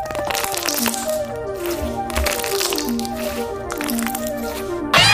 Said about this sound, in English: Oh, wait, we're not done. We can pop these bubbles. Listen.